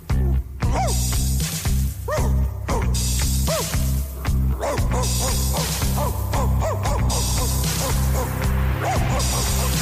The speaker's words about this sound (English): What are you barking at? What do you see?